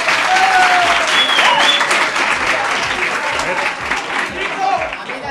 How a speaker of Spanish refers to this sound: Tenemos una profesora. Un fuerte aplauso para ella, hombre, un fuerte aplauso.